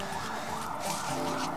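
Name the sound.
siren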